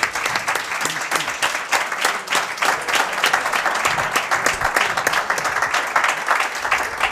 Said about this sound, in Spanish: Alcalde de San Sebastián, se despide del presidente de la Real. Hasta luego, Joaquín, un aplauso para el presidente.